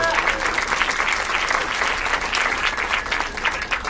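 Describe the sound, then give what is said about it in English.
An audience breaks into steady, dense applause for the wait staff, many hands clapping at an even volume for about four seconds with no voices standing out. “Please, a round of applause for them.”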